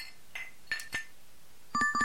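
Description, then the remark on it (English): Glasses clink together in a toast: a few bright, ringing taps, then a quick cluster of clinks near the end, fairly clear with no voices. “Sound is glasses clinking in a toast.”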